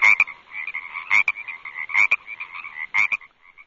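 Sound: frog croaking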